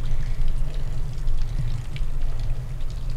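Steady rushing water of a waterfall pours without a break, a dense, loud wash with a deep rumble underneath and scattered splashy crackles on top. No one speaks.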